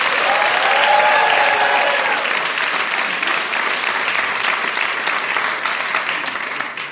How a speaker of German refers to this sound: Das aber nett. Dankeschön. Ja, vielen Dank für den aufmunternden Applaus.